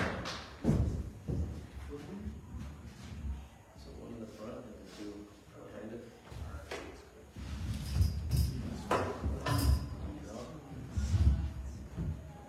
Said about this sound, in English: He's not leaving yet. He's going to help me rearrange some chairs.